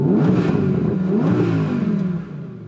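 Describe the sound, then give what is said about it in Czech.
A powerful Audi R8 V10 Plus engine is started and floored, revving loudly, its pitch climbing and dipping in a sustained roar before easing slightly near the end. No voices. “Posloucháte beatovej autosalona experta Pepu, ale hlavně naprosto skvělou Audi R8 V10 Plus.”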